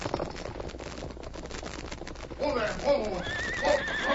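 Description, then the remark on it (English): Rapid hoofbeats clatter for a couple of seconds as a rider's horse gallops on along a valley trail without stopping, then the horse lets out a loud, shaky whinny that rises and trails off over continued galloping. “Perhaps he's unable to pull in his horse.”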